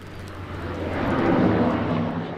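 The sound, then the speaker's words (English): A loud, steady engine of a giant boat-shaped fire aviation airplane roars on a tarmac in northwest Montana just before sunset, a broad rushing drone with a low hum underneath that swells slightly in the middle. “Just before sunset on a tarmac in northwest Montana, Wyatt Frampton ducks under the belly of a giant boat-shaped airplane to flick on a heated pressure washer.”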